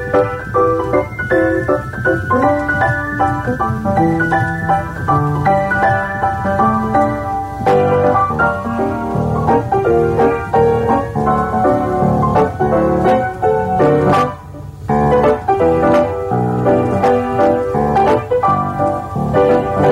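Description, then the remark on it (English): A country truck-driving song plays loud and steady, a full instrumental band with bright plucked and strummed tones and a driving bass, with no voices heard, and a brief dip near the middle. “All right, so not a bad collection of truck driver songs, eh?”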